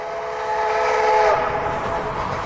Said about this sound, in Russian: Вот мы на крыше поезда. Он несется со страшной скоростью.